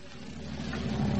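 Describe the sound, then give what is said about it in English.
A bus pulling in at a bus station: a low, steady engine rumble grows slightly louder over a second, with a broad hiss of road or exhaust noise on top. “Now back in the bus station, we find Fibber McGee and Molly watching the bus pull in.”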